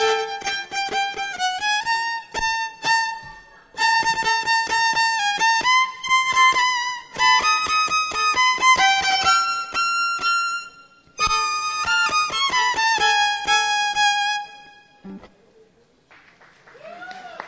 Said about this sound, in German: jetzt kommt mein Solo, warum ich Klaus der Geiger heiße